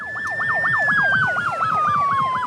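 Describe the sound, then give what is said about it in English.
The siren of a fully electric Fire Rescue Victoria fire truck in Australia wails in a fast, repeating up-and-down warble, loud, with a steady high tone that slowly drifts lower underneath. No one speaks. “Some of the sounds of this fire truck are very familiar, others are not.”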